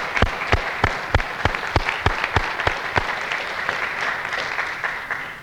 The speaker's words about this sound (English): So when he comes down, then he'll know that he got a little applause from us.